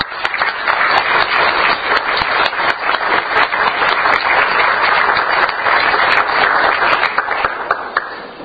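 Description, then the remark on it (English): A club audience claps in sustained, dense applause to welcome a new member, many hands overlapping into a steady, loud patter with scattered sharper claps standing out, holding for several seconds without voices. “She brings a really good high energy level, and I think that you all agree she'll make a great member of the club, so give me a rousing applause and a warm welcome.”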